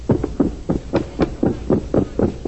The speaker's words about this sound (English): I hear somebody running. Open the door and see who it is.